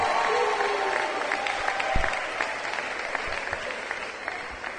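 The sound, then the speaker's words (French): A crowd applauds at the start of a special Radio Okapi broadcast marking the station's 18th anniversary, a dense wash of many hands clapping at an even, moderate level throughout, with a few faint voices mixed in. “Sous vos applaudissements, bienvenue à tous.”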